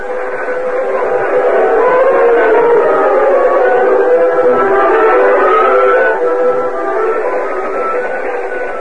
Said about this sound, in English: Cliff and Gopher stood beside the moonlit tracks, watching the train disappear in the distance